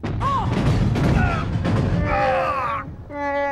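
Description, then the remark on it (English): Shrapnel from an explosion batters a spaceship hull in a loud, continuous barrage of rumbling crashes and thuds, laced with whining electronic tones, before settling into a steady humming drone. “I think we caught some shrapnel off the explosion.”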